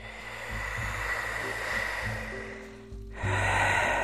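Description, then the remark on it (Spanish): A slow, long breath drawn as a steady airy hiss over several seconds during a guided relaxation exercise, swelling slightly louder near the end, with a low humming drone underneath and no talking. “Toma ahora una nueva respiración lenta y larga.”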